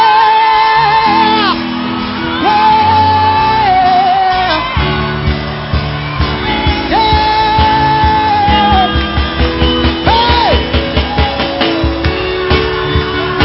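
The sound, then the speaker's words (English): An audience shouts loudly and continuously, with long sustained yells and whoops rising over a dense, roaring wall of crowd noise and rhythmic background music, unbroken throughout. “Some of you may be acting like madmen.”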